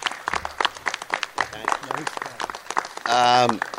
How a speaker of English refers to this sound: So, ladies and gentlemen, if you would please, a round of applause and as we bring to the microphone both Bill Fichtner and Kim Coates.